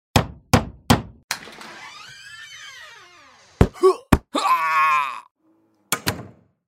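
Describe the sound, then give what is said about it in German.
Loud hammer blows from construction workers upstairs land in an uneven series, with a drawn-out groaning, creaking sound swelling between the strikes. A few more sharp whacks follow near the end. “Ich gehe da jetzt einfach mal hoch und sag denen, die sollen bitte ein bisschen leiser hämmern.”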